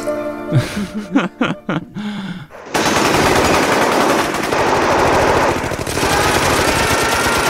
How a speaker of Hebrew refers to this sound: אז יש שם הרבה יריות, הרבה פיצוצים.